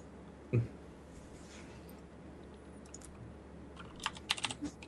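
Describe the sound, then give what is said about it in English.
A brief low thump, then a quiet stretch before a burst of sharp, clicky keyboard taps near the end as a Google Doc is being fixed, typed in an uneven rhythm over faint background hiss. No one speaks. “Now that the Google Doc is fixed with the clocky keyboard action.”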